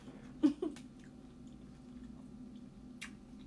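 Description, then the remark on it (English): Crunchy chewing: a quick cluster of two or three sharp crunches near the start, then a quiet stretch with low background hum before one more crisp crunch toward the end. “I'm really be like, let me let it soak in my mouth for a little bit. Before I start chewing. So it makes a straight crunch.”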